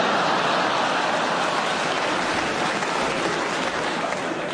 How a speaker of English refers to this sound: I had to go up to repair the roof the other day. Halfway up, down came the rain, it was a washout.